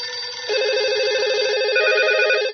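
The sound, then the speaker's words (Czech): A telephone rings with a steady electronic warbling tone as a radio call connects to a mathematics school in Šabac, holding at an even, fairly loud level for a couple of seconds before cutting off abruptly. No voices are heard. “Na telefonskoj vezi je matematički dvojac,”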